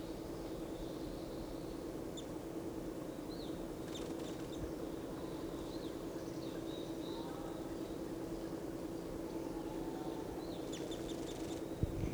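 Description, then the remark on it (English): Wild birds in lodgepole pines, one in the top of a lodgepole right above a net, give faint, high, short chirps and twittering calls at scattered intervals, with a brief cluster near the end, over a steady low hum and background noise. “So recording, one of the birds is in the top of a lodgepole right above the net.”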